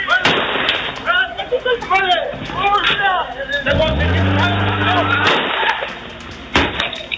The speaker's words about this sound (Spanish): De acuerdo a videos de cámaras de seguridad que se han difundido, se observa cómo se percutan varios disparos desde un vehículo en movimiento, aparentemente contra personas que estaban en la calle. Este es parte del audio ambiente.